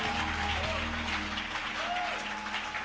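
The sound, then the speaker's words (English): An audience at Alabaster International Ministry's Jesus Celebration with Prophet Kofi Odru claps steadily, a dense wash of many hands at a fairly loud level, with faint voices and tonal sounds beneath. “Are you clapping? Are you clapping? Are you clapping?”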